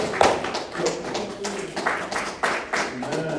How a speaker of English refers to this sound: Get the Lord a round of applause.